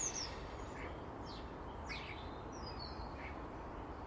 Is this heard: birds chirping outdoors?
yes